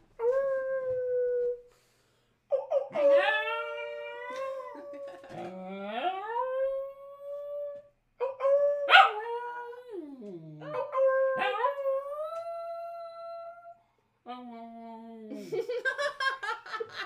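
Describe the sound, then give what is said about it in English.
A dog lets out a series of short, wavering little howls, its voice rising and bending in pitch between brief pauses, ending in a softer whiny yodel. “He did the little howl.”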